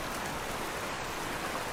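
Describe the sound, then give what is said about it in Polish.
Water rushes up from an opened valve under a lifted grate in a steady, dense hiss that stays loud and even throughout, with no voices and no breaks in the flow. “A, i podniosła się woda, widzicie?”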